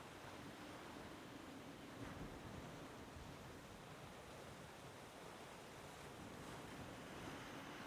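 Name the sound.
ocean waves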